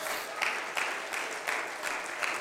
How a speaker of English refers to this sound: Somebody ought to clap your hands unto the Lord.